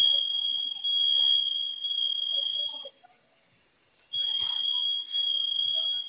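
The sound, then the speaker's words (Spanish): A security alarm system sounds a loud, shrill high-pitched tone that blares steadily for about three seconds, cuts out briefly, then starts up again just as insistently. “Un segundo, ahorita va a dejar de sonar solito.”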